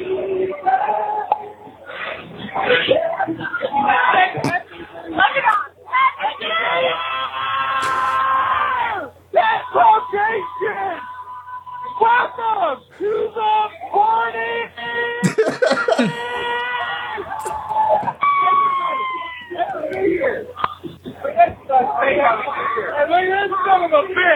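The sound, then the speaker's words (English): Over a phone line, in a voicemail call, a man shouts and yells loudly and nearly nonstop above a rowdy party crowd full of screams, cheers and laughter, the whole recording distorted and muffled. “… is at MTV Spring Break, and he's shouting about Tadpog.”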